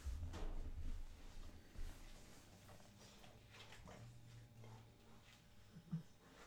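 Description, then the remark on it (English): A table being shoved and bumped by a female dog pushing against it with her rear: low, dull knocks and scraping wooden rumbles, with a heavier thud early on and another near the end, fairly quiet overall. “Let me readjust this table, because the dog is pushing it with her ass.”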